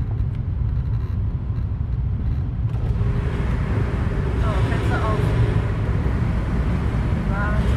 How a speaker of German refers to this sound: Das ist ein ohrenbetäubender Lärm. Also jetzt wissen wir, wovon wir reden, Motorradlärm. Wenn so viele Motorradfahrer auf einmal hier sind, ist natürlich klar, dann wird es richtig laut.